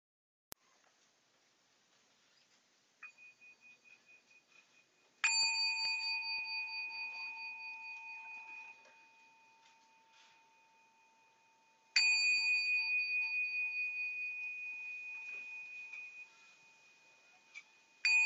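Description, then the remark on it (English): A meditation bell is struck three times, each clear, bright tone ringing out and slowly fading over several seconds before the next strike, heard alone. “And I'll sound the bell 3 times. And you can stay with the breath as you listen to the sound of the bell.”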